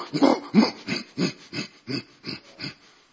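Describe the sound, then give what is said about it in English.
A bull elk in Colorado calls to its mate after a storm with a run of about eight short, throaty grunting pulses in a steady rhythm, fading slightly toward the end, with no voices. “And the bull.”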